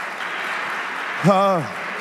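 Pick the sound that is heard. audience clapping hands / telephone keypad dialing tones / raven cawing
audience clapping hands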